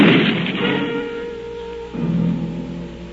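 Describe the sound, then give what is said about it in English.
A single sharp gunshot, whose bullet strikes a man in the side just below the belt, cracks at the start and fades into a low, ringing rumble, with a softer thud swelling again partway through over a steady humming drone. “I could feel the bullet land on my side, just below the belt.”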